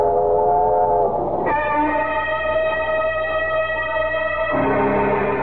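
A train rumbles steadily along the rails while a long, droning whistle sounds over it, jumping to a higher pitch and then dropping back down near the end. No one speaks.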